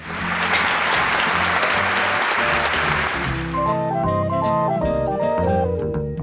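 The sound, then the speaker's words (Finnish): A loud crowd cheers hurrah three times and applauds for about three seconds, a dense burst of clapping and shouting, before giving way to a short bright musical jingle. “Hurraa! Kertaa kolme!”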